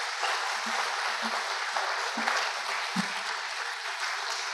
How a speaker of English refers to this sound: Ladies and gentlemen, please give a nice applause